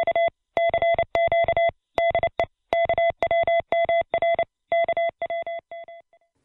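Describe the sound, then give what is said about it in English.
A steady electronic tone keyed on and off in short and long bursts, Morse code sent out at the RCA station at Point Reyes Station, tapping out an irregular rhythm for several seconds before growing fainter at the end. No voices. “and I listen to KWMR whenever I'm not busy sending lusty salvos of Morse code out at the RCA station.”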